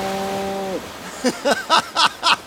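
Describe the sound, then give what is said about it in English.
A cow lets out a steady, drawn-out moo that cuts off abruptly, then a quick run of five short, rhythmic grunting calls follows, fairly loud. “He did it. He sent the cow.”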